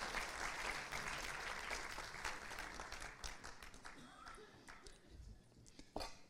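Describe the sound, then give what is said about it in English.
A church audience applauds young people who have just been prayed for, in sustained, dense applause that gradually thins out, with a few sharp individual claps near the end and faint voices mixed in. “Come on, let's give these young people a clap once again.”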